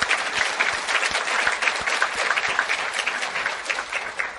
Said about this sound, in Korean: 우리가 1년 동안 은혜롭게 예배 드릴 수 있게끔 많은 분들이 보이는 곳에서 특히 보이지 않는 곳에서 수고와 헌신을 아끼지 않았습니다. 그분들을 위해서도 우리 감사의 박수를 쳐드리겠습니다.